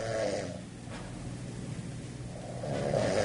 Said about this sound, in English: My God, this woman can snore. Sheesh. She's going to get lead poisoning from all the paint that she inhales when she's snoring at night.